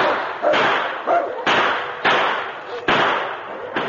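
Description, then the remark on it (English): A rapid series of gunshot blasts as a sergeant reloads and fires at a wolf pack at night: five or six heavy booms with sharp attacks and rumbling tails that overlap one another in an uneven rhythm, loud and with no voices. “The sergeant reloaded and blasted away again.”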